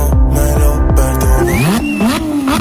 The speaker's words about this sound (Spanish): arranquen los motores, ha llegado la hora de pisar el acelerador.